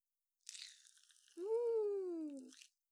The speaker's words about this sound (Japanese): 炭酸の音って気持ちいいもんね。